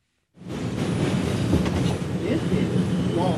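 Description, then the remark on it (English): A train rumbles in just before 9 a.m. as people file out to work, a loud, steady roar of rolling wheels and faint clatter that starts abruptly and holds for a few seconds with no voices. “It's just before 9 a.m. and people are filing out of the train to work on Wall Street.”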